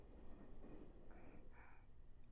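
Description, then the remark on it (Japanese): Steady low rumble inside a moving train carriage with box seats and few passengers, with a continuous rolling drone and two brief brighter squeals or hisses of the wheels; no voices. “さすがに電車の中でそんな音がしてたら、私たち変な目で見られちゃう”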